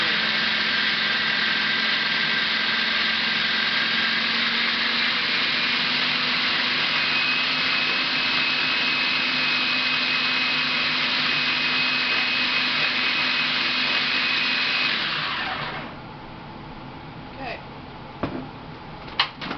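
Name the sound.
food processor running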